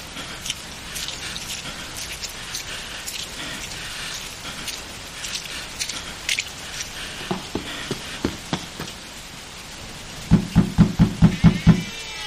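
Rain patters steadily in foul weather while a series of firm knocks sound on the wooden door of a house, first spaced out, then a louder, quicker burst of about six raps near the end.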